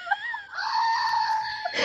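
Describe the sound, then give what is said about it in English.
A screaming goat sound effect: a short, shrill bleat followed by a long, loud, strained scream held at a high pitch, ending with a harsh burst. No one speaks over it. “I'm gonna get the goat.”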